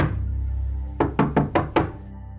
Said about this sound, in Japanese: ノックしてみよう。